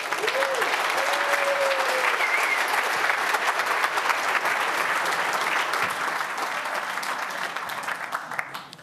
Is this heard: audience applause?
yes